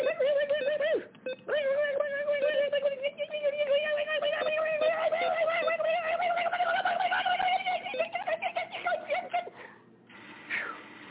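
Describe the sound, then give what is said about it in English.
Birds coo and call loudly in a steady, nearly unbroken stream of warbling tones that rise slightly in pitch, then briefly fade near the end. “it was some birds.”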